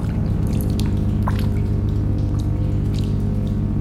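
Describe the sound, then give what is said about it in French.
Water drips inside a cave at the foot of Mont Saint-Clair near Sète, a scattering of irregular, sharp plinks over a steady low droning hum, with no voices present. “Nous voici donc à l'entrée de la cavité.”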